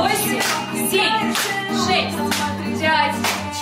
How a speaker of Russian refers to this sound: 8, 7, 6, 5, 4, 3, 2, добавляем хлопочки.